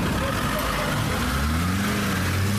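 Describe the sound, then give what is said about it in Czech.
A car is started and its engine hums steadily, rising in pitch as it pulls away and accelerates, driving off toward Prnjavor, with faint voices in the background. “Spavat nisam mogao, čekao sam ovaj moment, a moja želja sada je, ako nemate ništa, palim auto i ode do Prnjavora i vraćam se u svoje Lijevče polje.”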